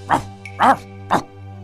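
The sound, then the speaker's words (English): A dog, Old Yellow, barks three times in quick, evenly spaced yaps while running around a kitchen table, fairly loud, over a steady low electrical hum. “Old Yellow starts barking and running around the table.”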